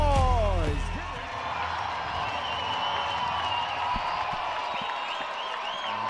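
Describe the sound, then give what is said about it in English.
A big ballpark crowd at a baseball game roars and claps steadily in a broad, sustained wash of noise at the bottom of the ninth inning, with scattered whistles and whoops rising above it after a brief falling tone at the start. “Let me hear you make some noise.”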